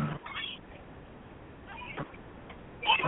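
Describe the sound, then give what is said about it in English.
A big cat meows twice, a short call near the start and another right at the end, both fairly faint against a muffled, low-level background. “All right, that's why I forgot that cat. That's that big cat.”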